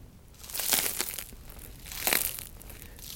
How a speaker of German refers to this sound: Wenn ich jetzt einfach auf das Brot drücke und das Brot ist schon mehrere Stunden alt, dann würde das jetzt noch knuspern. Ich weiß nicht, ob man das nachher hört, aber...